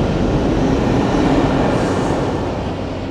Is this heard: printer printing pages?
no